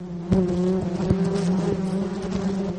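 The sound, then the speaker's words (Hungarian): A dense, continuous drone of many honeybees buzzing around a hive, steady, with occasional louder hums as individual bees pass near. No voices. “Egyetlen kaptárban akár 50-60 ezer méh is élhet egyszerre.”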